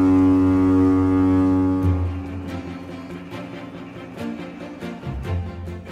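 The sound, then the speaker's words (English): A deep, loud foghorn blast drones steadily for about two seconds, then gives way to quieter tonal sounds punctuated by sharp, irregular clicks and knocks. No one speaks. “To understand more about early foghorn technology”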